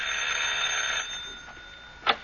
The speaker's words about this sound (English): Swell. I'll ring the doorbell.